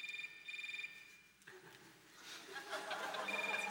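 A mobile phone in a concert audience rings to begin the concert, a bright, pulsing electronic tone for about a second and a half. Then the murmuring audience takes over, with some chuckling and rustling.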